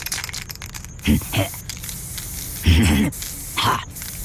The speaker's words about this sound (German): Boah, da sind wir. Gib mal die Spraydose. Ja, bist du auch sicher, dass... Ja, nun gib schon. Hier.